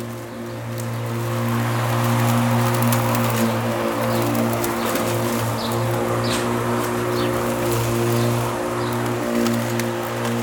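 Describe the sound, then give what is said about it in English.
A lawnmower mowing the lawn outside on a Saturday drones steadily, its low, buzzing hum holding an even pitch throughout with a faint hiss of cutting above it and a few faint chirps. “Maybe you want to just listen to this. Even the lawnmower is interesting.”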